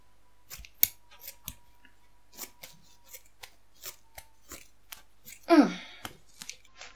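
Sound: scissors snipping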